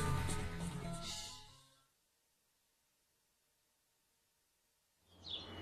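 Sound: birds singing outdoors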